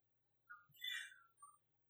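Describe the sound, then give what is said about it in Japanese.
A few soft bird chirps, short bright calls clustered together over about a second, faint against an otherwise quiet outdoor background with no talking. “大水のとどろき、この鳥の音が聞こえるのにね、神の声が聞こえないんですよ。”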